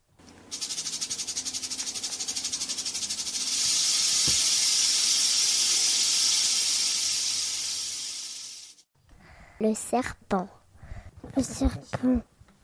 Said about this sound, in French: Le serpent.